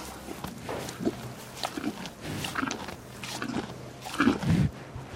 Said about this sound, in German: Daheim im Stall sind seine Mutterkühe gerade dran, Öko-Heu zu fressen. Heu von einer Ökofläche, wenig düngend, spät geschnitten.